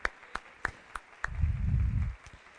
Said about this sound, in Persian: این تشویق‌ها گرم نیست